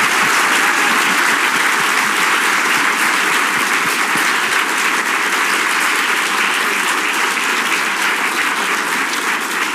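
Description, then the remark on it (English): Loud, sustained audience applause for a guest speaker at the Albers Executive Speaker Series, a dense wash of many hands clapping steadily for about ten seconds with no talking over it. “Let's give him Thank a big you. Round of applause.”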